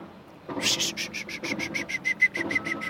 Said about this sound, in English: And when I whistle, the blue jay comes.